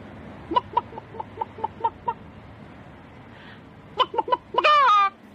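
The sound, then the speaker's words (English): A person imitates a chicken, giving a steady run of short clucks, then a quicker burst of clucks that ends in a longer, rising squawk. The voice is fairly loud. “And then you just hear someone doing a chicken sound.”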